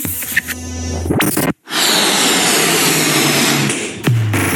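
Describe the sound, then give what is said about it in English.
Balloons being blown up with a pump by Mags from the party booth on the high street on a Sunday evening at 5 p.m.: loud, steady rushing hisses of air in two long bursts separated by a brief pause, with a squeaky tonal whine at the start and no talking. “The sound of Mags from the party booth blowing up balloons is heard on the high street.”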